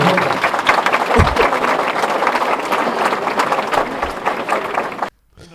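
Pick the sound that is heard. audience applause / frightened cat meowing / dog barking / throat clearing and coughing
audience applause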